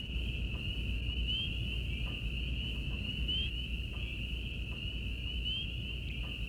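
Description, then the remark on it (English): On a country night, a little after sundown, peepers, crickets and katydids chirp in a steady, unbroken high-pitched trill. It runs the whole time at moderate volume over a low, constant outdoor rumble, with no voices. “Little peepers and crickets and katydids talked to each other.”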